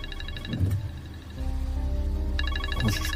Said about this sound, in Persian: زنگ موبایل حامده